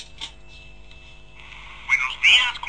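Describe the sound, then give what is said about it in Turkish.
A telephone in a phone booth rings in two short, warbling electronic bursts near the end of a video game intro, following a quiet stretch of steady high tone and low hum. “Telefon çalıyor, telefon kulübesine girdi.”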